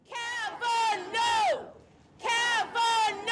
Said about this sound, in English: Right around the same time, 900 miles away, another crowd gathered at Senator Murkowski's office in Anchorage.